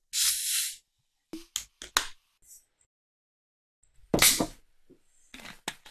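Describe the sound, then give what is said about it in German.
A fizzy soft drink is poured into a glass: an opening hiss, scattered crackling pops, then a louder gushing pour followed by sparse fizzing crackles, with no talking. “Also, ich gieße es mal ein.”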